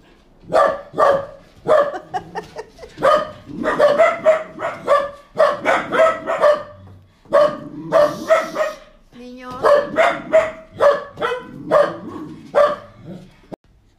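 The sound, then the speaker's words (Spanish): Dogs bark loudly and repeatedly in quick bursts of sharp, mid-pitched yaps, with brief pauses between volleys that keep going for the whole stretch. “Listo, después de esta pequeña interrupción, donde los perros también querían participar en el podcast”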